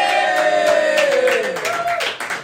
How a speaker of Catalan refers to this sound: Aplaudit més els que no poden participar que els que participen.